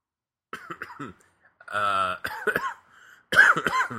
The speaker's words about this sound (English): Man, I cannot get rid of this cough.